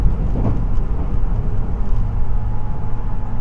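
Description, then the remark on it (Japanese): A continuous, steady low rumble fills the cabin of the moving limited express train Shiosai No. 14 bound for Tokyo, with a faint hum and no voices, heard from inside the carriage. “この電車は特急潮彩14号東京行きです。”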